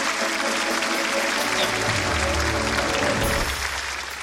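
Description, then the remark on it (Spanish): A studio audience breaks into sustained applause, a dense wash of clapping that stays loud and steady throughout, with a low hum underneath that fades near the end. “Te queremos mucho y el público te da este aplauso, mami.”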